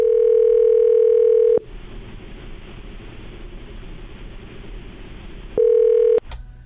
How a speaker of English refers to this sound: Is the phone ringing? Hello? Yes, the phone is actually ringing.